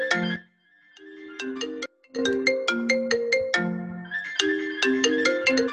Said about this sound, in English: Is it just me who hears someone's phone ring? Apologies.